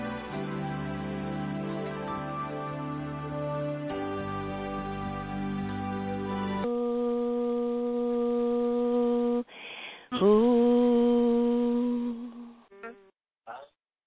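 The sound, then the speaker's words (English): Several voices on an online call hum together in sustained, steady tones, shifting pitch in a few long stretches, then a single louder rising hum before it breaks off into short fragments. “Yeah, so this time, instead of a howl, we're going to make a nice hum, like, and I'll start it.”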